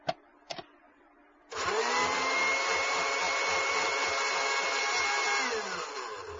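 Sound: blender running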